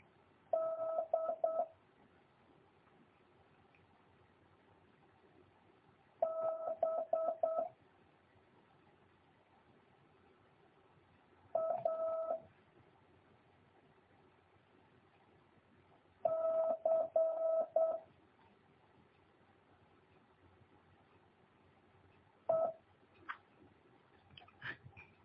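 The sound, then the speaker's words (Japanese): Five Morse code letters for a copying exercise, D, B, A, C and E in random order, keyed as clusters of steady mid-pitched tone beeps, each separated by a long silent pause of several seconds; the final character is a single short blip. “それじゃあ5文字打ちます。”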